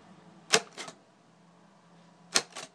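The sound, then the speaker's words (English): Two separated pairs of sharp mechanical clacks from a Braille writer typing a letter of the Braille alphabet, each a quick double strike as keys press and release, fairly loud, with a quiet pause between them and no talking. “I'm kind of referencing a bit of paper to the side that's got the Braille alphabet on there.”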